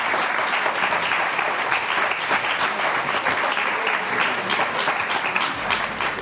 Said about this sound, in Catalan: i us demanaria que li fem un aplaudiment tots.